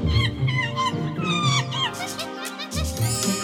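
monkey call

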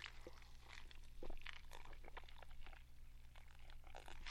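sipping a soda drink

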